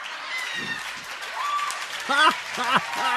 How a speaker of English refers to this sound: This is at a church, by the way. They're applauding at a church at this.